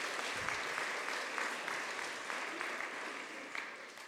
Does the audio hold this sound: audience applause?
yes